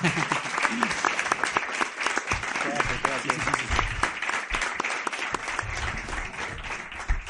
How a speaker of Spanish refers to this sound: pero otro aplauso, por favor. Que se lo merece.